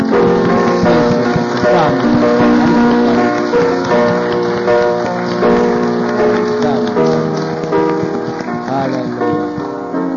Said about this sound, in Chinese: 我们向我们的主来拍手。